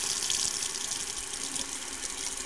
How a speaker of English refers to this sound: When I first heard that four towns were flooded to build the reservoir, I imagined a little Atlantis down there, but the water coursed through some intact village on its way to my faucet, and it was kind of haunting.